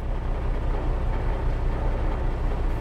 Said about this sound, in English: There it is, the submarine we are about to visit. Out in the open and with the engine running.